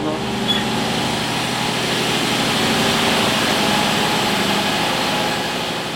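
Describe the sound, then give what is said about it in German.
Loud, continuous machinery fills a printing plant hall, a steady mechanical drone layered with dense rattling and clattering, holding at the same level throughout with no voices; a printing machine is being started up. “öffnet die Tür in die Halle, die aus einer einzigen Maschine zu bestehen scheint. Alles bewegt sich, klappert, rattert, wie ein riesiges Uhrwerk.”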